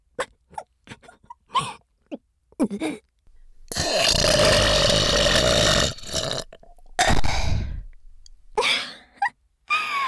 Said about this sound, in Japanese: 笑いすぎてゲップ出ちゃった。うわ、くっせ。